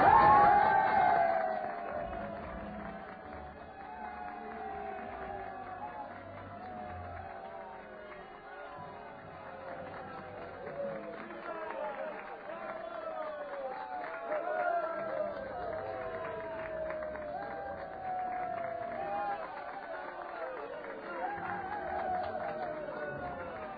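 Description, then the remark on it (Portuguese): A vast crowd of more than 300,000 spectators roars and cheers continuously at a chariot race in an arena, a dense wall of many overlapping voices and shouts that swells and dips slightly but never stops. “A plateia vibra quando morrem na arena os primeiros cocheiros e cavalos, vítimas de acidentes fatais.”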